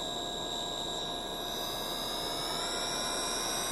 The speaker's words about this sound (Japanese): こちら戦闘艇指令室マイケル。発進デッキ、ゲート開放終了。戦闘艇1号、2号、3号、発進。